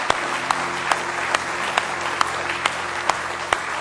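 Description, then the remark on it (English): An audience gives the Lord another hand clap of praise tonight, a dense, steady wash of applause from many hands, with a few louder claps cutting through at regular intervals over a faint sustained tone beneath. “Well, let's give Him another good hand clap of praise tonight if you love Him.”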